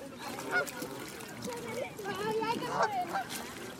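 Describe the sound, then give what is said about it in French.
A flock of flying geese, just taking off or about to land, honks repeatedly, their calls overlapping in a continuous, raucous chorus, with a faint murmur of voices underneath. “Ah, regarde, ça c'est un escadrille qui vient de décoller ou bien qui va atterrir.”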